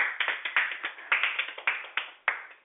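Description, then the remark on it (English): A short burst of hand clapping for the winners of last week's battle on DJ Swag Radio: roughly a dozen sharp, slightly uneven claps in quick succession at moderate loudness, with no voices over them. “Clap, bro.”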